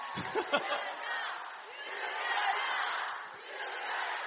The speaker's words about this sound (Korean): 여러분, 박수 한번 주세요.